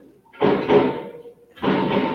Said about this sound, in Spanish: Un pájaro carpintero golpea el árbol con su pico, haciendo mucho ruido. Ahí está el pájaro carpintero y con su cualidad, ¿no? De estar golpeando el árbol para hacer su hogar, pues, ¿no? Y para conseguir alimento.